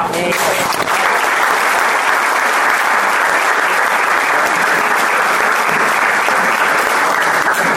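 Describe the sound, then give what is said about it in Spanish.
Sustained audience applause for a newly elected spokesperson, a dense, steady wash of many hands clapping at full volume for the whole stretch, with no voices rising above it. “Un fuerte aplauso.”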